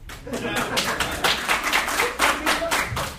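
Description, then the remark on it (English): A crowd claps steadily for a few seconds: dense, crisp hand claps blend into a brief round of applause at a moderate, even loudness. “And I was expecting an applause break.”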